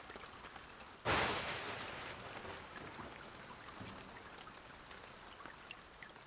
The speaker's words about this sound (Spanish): ¿Cómo está el tiempo hoy? Está lloviendo.